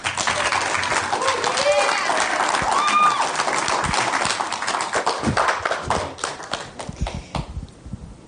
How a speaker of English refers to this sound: But she's an amazing lady, and I want you to give her a round of applause.